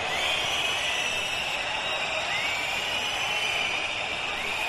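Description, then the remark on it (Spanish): A large crowd at a military parade whistles in loud, sustained protest at the president, a dense shrill wall of overlapping high-pitched tones that holds steady without pause over a rough background roar. “El sonido, pues, es inequívoco, ha sido una pitada unánime, ha contrastado, como decías, con la ovación que sí que se ha llevado la familia real.”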